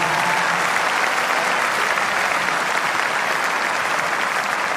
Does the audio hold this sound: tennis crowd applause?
yes